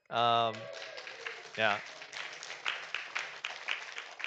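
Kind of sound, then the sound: crowd, round of applause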